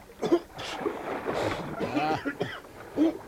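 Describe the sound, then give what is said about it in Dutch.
A man sputters and coughs while water splashes around him in rough bursts as he is dunked underwater and dragged on a line behind a boat. “Wil hem een kopje onder laten gaan, meneer?”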